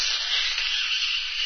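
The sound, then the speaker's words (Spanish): A loud, drawn-out slurp of a glass of boiling hot, very sweet mint tea, one continuous airy hiss lasting about a second and a half with a steady, breathy high-pitched texture and no talking. “Me gusta sorberlo con mucho ruido, así na'ha.”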